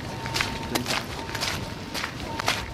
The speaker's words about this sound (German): Der Mann, der Flanieren als Schule der Langsamkeit predigt, schreitet zügigen Schrittes voran.